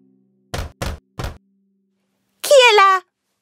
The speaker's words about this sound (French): Quand il vit la chèvre partir, il attendit un instant. Puis il s'approcha de la maison et frappa à la porte.